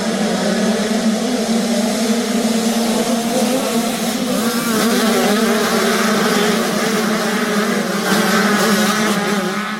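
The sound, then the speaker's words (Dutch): Motocross motorbikes roar steadily at the Zwarte Cross festival in Lichtenvoorde, in the Achterhoek region of Gelderland, engine whine rising and falling slightly in pitch over a constant loud drone, with no speech, like racing at an outdoor event. “Een festival in Lichtenvoorde in de Achterhoek met onder meer muziek, stunts en heel veel motorcross.”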